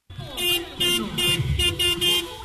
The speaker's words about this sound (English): Even if everyone's staying in their car, it's pretty rowdy out here. A few dozen drivers are parked around a wrestling ring. They pound their horns.